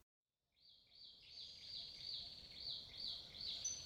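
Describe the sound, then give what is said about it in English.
Birdsong fills a quiet, cool forest, a steady string of high, warbling chirps repeating in a gentle rhythm over soft background hiss, with no one speaking. “Momotaro walked through the cool forest, listening to the bird song and wondering where the island of the Oni was to be found, when his belly started rumbling.”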